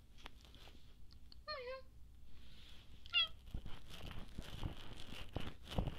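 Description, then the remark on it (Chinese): A person does two short, high-pitched imitations of a cat's meow, one early and one a moment later, close and clear, followed by rustling and shuffling noises. “我也很会喵啊。”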